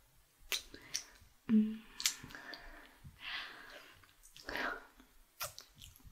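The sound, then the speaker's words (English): Quiet wet kissing sounds with tongues: irregular lip smacks and tongue clicks with soft, breathy exhales between them, and no speech. “Our wet tongues are wrapping around each other.”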